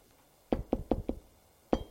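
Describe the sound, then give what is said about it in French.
Four quick knocks on a door by a maid, evenly spaced, then a short pause before two more raps begin. The knocks are solid, with no talking. “On a frappé à la porte.”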